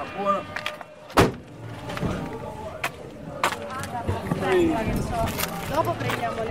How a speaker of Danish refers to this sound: da vi er steget ud af bilen med udsigt til et mursjak